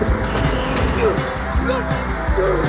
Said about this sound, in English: The sports car continues in pursuit.